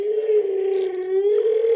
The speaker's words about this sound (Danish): Eller tænk at kunne høre historier fra en pukkelhval, der hvert år svømmer hele vejen fra det kolde nord ned til de varme have ved Mexico. Det her er pukkelhvalens sang.